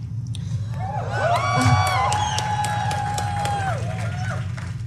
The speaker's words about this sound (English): They put down their sandwiches to clap. They're protesting the fact that they have to come back to work.